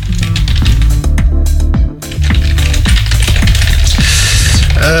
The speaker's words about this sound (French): Voilà, je lui ai écrit en privé, et vous avez entendu les jolis claquements de mon non moins joli clavier.